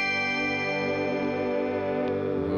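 A GR500 guitar synth on its Fantasia setting, a Juno-style patch with tremolo, holds one rich, buzzy chord with a chorused shimmer and a synthy sound under a bell tone, sustained at a steady level for the whole stretch with no one talking.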